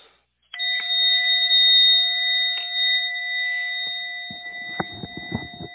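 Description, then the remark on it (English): A bell is struck to signal the end of a short break, then struck a few more times, its bright metallic tone ringing on steadily and sustaining throughout, with some faint handling clatter near the end. No one speaks. “Thought I would ring the bell tonight in case people have wandered away from their device.”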